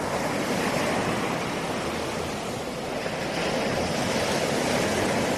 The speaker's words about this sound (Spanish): Oír ese sonido del mar